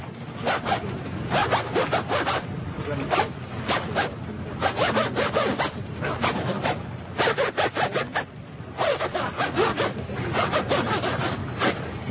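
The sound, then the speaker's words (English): A zipper is pulled rapidly up and down in quick rhythmic bursts, played like an instrument to perform a Mozart tune, its bright ripping rasps forming a jerky, tune-like pattern with brief pauses, played steadily loud with no talking. “I play the zipper. The zipper?”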